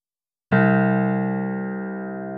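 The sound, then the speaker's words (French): A single piano note struck once with a gently placed finger, on a piano standing in the middle of a garden at night, after a brief silence, ringing out with a rich, steady tone that slowly fades as it sustains, with no voices present. “Arrivée au milieu du jardin, tante Valérie reprend son souffle et, délicatement, pose un doigt sur une note du piano.”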